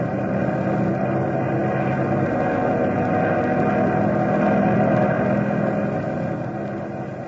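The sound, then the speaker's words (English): A steady, loud airplane engine drone fills the whole stretch, a constant mechanical roar with a rough, throbbing hum and no voices, holding level as the plane climbs to fly over turbulent air. “We can fly over it if that hot engine will take it.”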